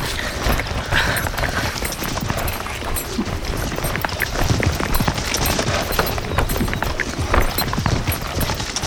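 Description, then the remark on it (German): A horse's hooves pound in a rapid, dense galloping rhythm as a rider rides off, loud and steady throughout without fading, with no voices over the clatter. “Da, der Kerl reitet ab.”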